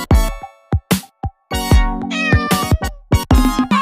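A cat meows loudly, several drawn-out cries in quick succession, broken up by short sharp clicks and brief pauses.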